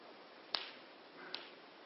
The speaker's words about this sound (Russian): Для меня не страшно, не бойтесь, что там я хлопаю. Я занимался танцем и хлопушками. Вот так показать, да? Вот это трехмерный звук.